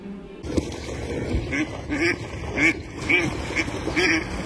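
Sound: ducks quacking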